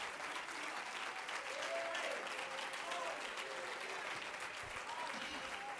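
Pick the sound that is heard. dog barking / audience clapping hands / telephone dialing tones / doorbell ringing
audience clapping hands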